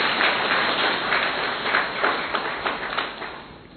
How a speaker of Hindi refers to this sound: तो पहले अपने लिए ताली बजाएं।